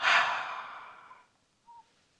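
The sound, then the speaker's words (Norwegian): A long, airy breath blown out through the mouth during a breathing exercise, after breathing in through the nose and holding the breath. It is loudest at the start and fades away over about a second, followed by a brief faint voiced hum. “Og så puster du ut gjennom munnen.”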